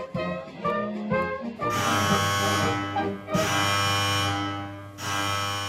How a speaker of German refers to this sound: Alarm in der Festung Schönambourg.